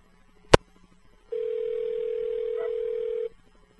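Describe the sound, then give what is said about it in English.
A sharp click, then a steady telephone dial tone hums alone for about two seconds before cutting off cleanly, leaving quiet line hiss behind, as a caller tries again after a line problem in the neighborhood. “You want to call it again, please?”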